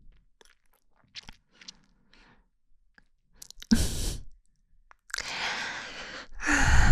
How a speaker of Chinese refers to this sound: 看你哈欠连天的，脑子都转不动了吧？